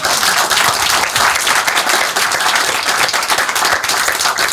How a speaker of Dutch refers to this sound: Ah, mag ik een applaus voor